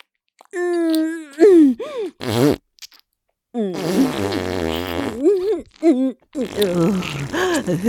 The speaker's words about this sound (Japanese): くっさいおなら連発。ほーら、まだまだ出るわよ。お尻に力入れて。